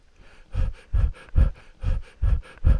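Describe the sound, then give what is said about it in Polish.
Heavy, rhythmic breathing, six loud breaths in quick succession, each a rough, panting inhale-exhale with no talking, as a patient breathes on a doctor's instruction during a medical examination. “Oddychać.”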